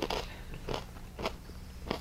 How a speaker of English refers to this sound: Sorry about the crunching, you guys. Corn nuts are way too loud.